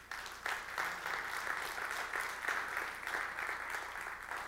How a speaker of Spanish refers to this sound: ¿Alguien puede darle un aplauso al Señor?